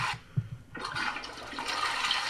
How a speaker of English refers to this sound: If you listen to the very beginning, it sounds like the when you flush a toilet. What was the answer? Toilet flushing. I was actually right.